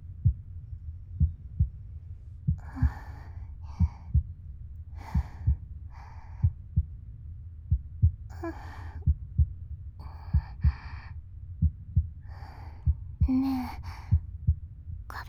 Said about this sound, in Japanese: 知ってる？生まれたての赤ちゃんって心音を聞かせると泣き止むんだって。 なんで？ なんでだろう。お母さんの心音を聞いて生まれてくるから